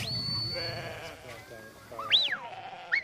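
animal, sheep bleating

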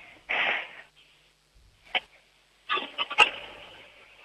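household object, toilet being flushed

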